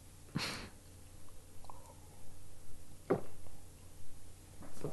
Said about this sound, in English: Well, I hope you didn't hear that gulp.